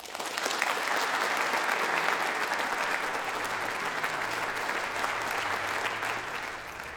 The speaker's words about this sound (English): Ian McMillan reading his poem, Those Seconds, summoning applause at the end of this evening's Proms Plus literary event, recorded earlier down the road at the Royal College of Music.